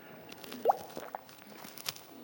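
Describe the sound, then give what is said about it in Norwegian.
A drink being poured into a large glass: soft, quiet liquid glugs and a few plopping drips in an irregular rhythm, with a brighter plop standing out early on. No one speaks. “Nå må jeg ha litt mer å drikke her nå.”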